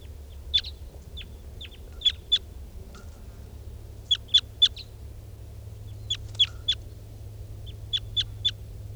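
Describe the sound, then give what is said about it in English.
Wild birds, among a bunch of wild crossbills, calling as they fly over in quick clusters of sharp, high chips, two to four notes at a time, repeating every couple of seconds over a low steady rumble. “as wild birds fly over.”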